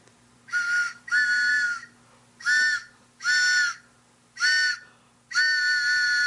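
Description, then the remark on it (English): A train whistle sound effect, the WBAI "pitching train" played on a radio program, blows six chord-like toots in a steady rhythm, each roughly half a second long and the last one drawn out, over a low constant hum. “Oh, it's the WBAI pitching train on our program again.”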